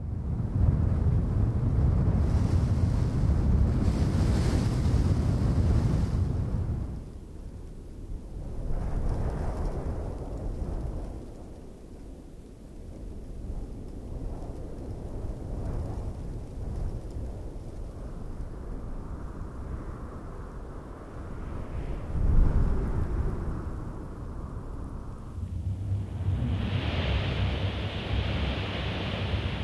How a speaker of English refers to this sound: Arabian Desert by Mindful Audio is a collection of stereo and quad soundscapes recorded on the Arabian Peninsula, in the Empty Quarter, the largest expanse of sand dunes on Earth.